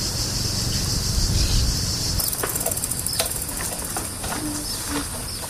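A constant, shrill drone of cicadas fills the background, while irregular scuffing footsteps on the Via Appia, the ancient Roman road in Italy, start partway through and continue over a low rumble that fades early on. No one speaks.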